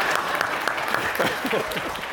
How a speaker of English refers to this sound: I mean, oh, you're right, applaud them, yeah, of course.